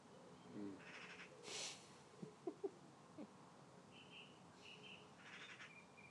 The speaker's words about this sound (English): At least I'm getting some proper singing birds on my side.